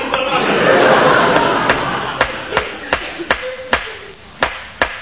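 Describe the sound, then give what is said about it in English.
Sharp wooden knocks of a hammer driving wooden stumps into the ground of a potato patch, about nine blows at uneven intervals, fairly loud, over a hissy background with faint murmuring voices early on. “Stop hammering those bits of wood in my potato patch.”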